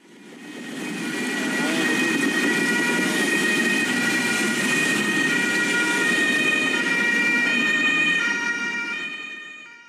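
An emergency vehicle siren wails steadily and loudly over a constant low rumble of road traffic, its tone holding for the whole stretch before fading slightly at the end.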